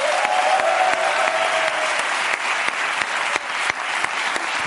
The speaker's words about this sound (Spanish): Un aplauso para Jorge Ponce, que es que